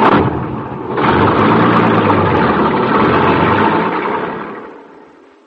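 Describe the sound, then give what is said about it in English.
A truck engine rumbles steadily with a low, droning hum as the truck is driven over sand around a dune, revving up after a moment, holding a loud, even roar, then fading away toward the end. No one speaks. “Come on, I'll hop on the truck with you and see for yourself.”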